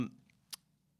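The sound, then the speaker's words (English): A dropped pencil makes one short, sharp, quiet click against a hard surface over a low steady hum, with a soft brief knock at the very start. “Drop my pencil.”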